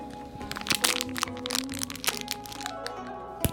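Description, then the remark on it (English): A fortune cookie is cracked and broken apart, giving a rapid run of crisp, dry snaps and crunches, with a few sharper cracks standing out. There is no talking. “It's customary to take a bite of fortune cookie before reading the fortune.”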